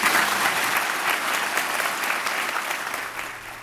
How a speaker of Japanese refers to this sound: まあ、たくさんの拍手が聞こえたと思いますけれども、うん、本当に、ね、大勢の方がいらっしゃいました